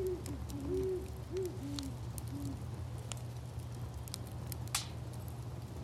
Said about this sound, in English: We had some owls in our backyard while we had the fire going.